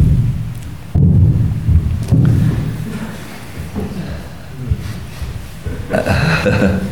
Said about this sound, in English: There's thunder in the air.